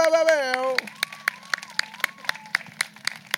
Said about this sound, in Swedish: Ge en till stor applåd mina damer och herrar.